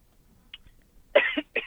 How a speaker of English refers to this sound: Oh, sorry to hear you coughing. Hope it's nothing serious.